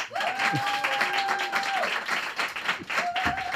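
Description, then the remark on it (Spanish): An audience on the comedy show La Hora Fenomenal applauds steadily as a comedian is introduced, a dense wash of clapping that fills the whole clip, with a few whistles piercing through and cheers rising within the crowd noise. “Pido un aplauso para un cómico más gallego que el Ribeiro”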